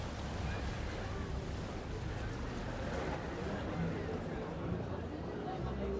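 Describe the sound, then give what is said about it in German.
Waves rush steadily and monotonously around a gently swaying ship at sea, a continuous broad wash of water with a low, droning rumble underneath and some wind noise, holding an even level throughout. “Die kalte Meeresluft auf der Haut, das sanfte Schwanken des Schiffes, das monotone Rauschen der Wellen, ein Rhythmus, der ihre Gedanken ordnet.”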